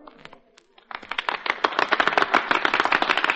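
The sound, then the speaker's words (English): After a brief, faint lead-in, a crowd at Sharpie's breaks into applause for a singer and a pianist, a dense crackle of many hands clapping that swells quickly and stays loud and steady to the end. “And now, in appreciation of your kind applause,”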